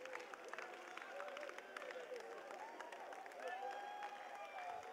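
An audience claps their hands in a steady, dense patter, with many voices singing and calling out over the applause throughout.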